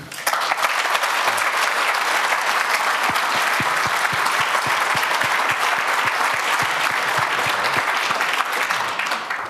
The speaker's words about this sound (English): And let's give a first round of applause.